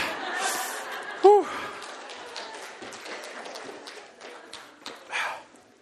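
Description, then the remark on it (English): Someone blows their nose: rough, airy bursts of breath with a short, squeaky honk early on and another loud blast near the end, over soft background rustling. “When you're mic'd, you can't blow your nose.”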